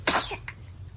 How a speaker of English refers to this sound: So twin babies looking at each other, and one of the babies sneezes and gives the other baby a fright. I think there's like three sneezes on here.